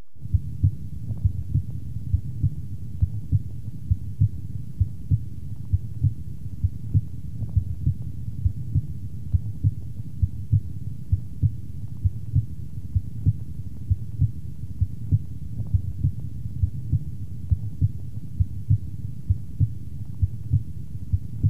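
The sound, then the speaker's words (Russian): Heart sounds heard through a stethoscope over the pulmonary valve area, in the second intercostal space left of the sternum: a steady, regular run of muffled low lub-dub beats, continuous over a soft background hum, with no talking. The ratio of the heart tones is the same as over the aorta. “В третьей точке аускультации, во втором межреберье слева от грудины, соотношение тонов сердца такое же, как и над аортой.”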